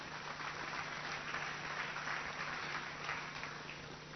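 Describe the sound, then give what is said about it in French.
An audience at a Christian sermon applauds and acclaims the Lord in a steady, dense wash of clapping that holds for several seconds, with a faint low hum beneath. “Vous pouvez offrir une acclamation, Seigneur, pour ça.”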